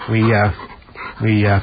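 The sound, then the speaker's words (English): A male dog, a canine guest brought up to the microphone, lets out two drawn-out, tonal whimpers, each about half a second long, with soft breathy panting in the pause between them. “Okay, well, we have a canine guest in here today. You might be able to hear him.”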